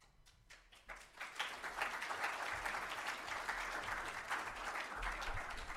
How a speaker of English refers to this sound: You better keep your applause for the end. You don't know what I'm going to say, eh?